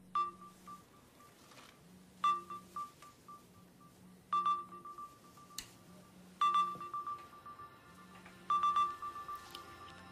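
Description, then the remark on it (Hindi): Ringback tone of an outgoing call from a mobile phone: a steady, low electronic purr with brighter beeps layered on top, repeating in regular bursts about every two seconds. No one speaks. “घंटी जा रही है यहाँ।”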